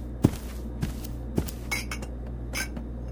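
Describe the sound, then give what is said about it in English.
Dishes and cutlery clatter as someone makes a sandwich: a few sharp clinks and knocks spaced irregularly, with some softer scraping, over a low steady hum and no talking. “I'm making myself a sandwich.”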